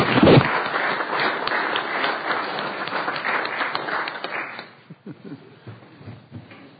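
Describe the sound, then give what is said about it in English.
A crowd in a state Senate chamber breaks into a round of applause for a county commissioner, dense steady clapping for about four and a half seconds before it quickly dies away, followed by a few scattered claps and quiet murmuring. “Please give him a round of applause, too, if you would.”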